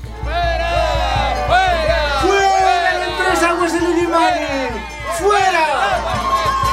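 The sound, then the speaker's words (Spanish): A large crowd in the city of El Alto, Bolivia, shouts and chants in protest against the transnational water company Aguas del Illimani, many raised voices overlapping in a loud, continuous roar of rising and falling cries that barely lets up. “Multitudes gritan en la ciudad del Alto contra la transnacional Aguas del Illimani.”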